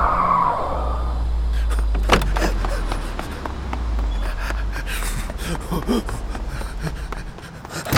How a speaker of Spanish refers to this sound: de pronto el Atos rojo de Damián casi se estrella con el vitral de la entrada